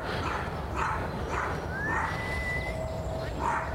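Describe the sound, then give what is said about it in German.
An unleashed dog barks, several short, spaced-out barks rising above a steady, noisy outdoor background, fairly faint and with no one speaking. “Na gut, solange das Hundevieh nicht in meine Richtung unterwegs ist.”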